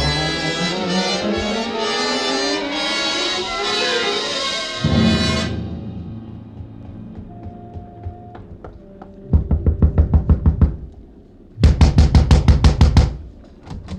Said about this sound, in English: A gentle knock does it, Mac. Shall we try again?